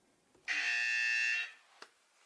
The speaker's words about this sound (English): No, you have to press the buzzer when you know.